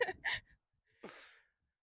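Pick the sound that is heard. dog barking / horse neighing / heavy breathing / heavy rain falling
heavy breathing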